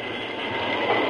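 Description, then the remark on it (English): A train brakes to a stop because logs are piled on the tracks, with a steady, dense grinding rush and a high metallic hiss running through it, holding loud and even for about a second with no voices. “If you don't stop, we'll be wrecked. I reckon I'll have to stop. Put on the brakes.”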